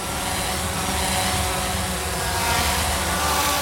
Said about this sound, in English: Imagine a crowded city with hundreds of delivery drones buzzing by at all times. Now imagine how bad it would be near the fulfillment center, where the drones actually take off and land.